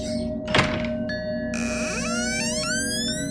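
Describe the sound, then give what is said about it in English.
A door opens with a single solid thunk, followed by a sustained, rising tonal whine as it swings, clear with no voices. “This door, it's dark. No idea where it goes.”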